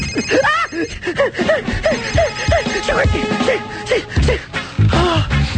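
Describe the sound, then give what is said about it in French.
A mobile phone ringing with a loud, warbling electronic melody that repeats steadily for several seconds, with no one talking over it. “J'ai cru que c'était lui, tu vois.”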